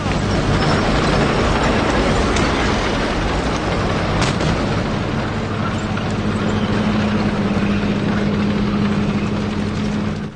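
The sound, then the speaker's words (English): An armoured tank piled high with troops rumbles past piles of rubble and burnt-out vehicles lining city streets, with a loud, unbroken low roar, its tracks rattling and clanking throughout, and a steady engine drone emerging in the second half. “An armoured tank rumbles past the piles of rubble and burnt-out vehicles lining the city streets.”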